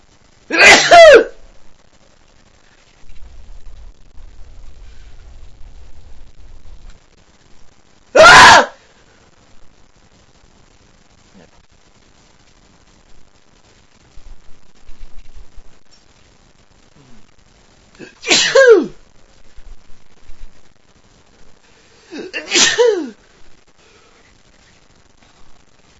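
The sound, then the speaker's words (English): Four sharp, explosive sneeze-like bursts spaced several seconds apart, each loud, with quiet stretches and a faint low rumble between them. “Is it this dog making you sneeze?”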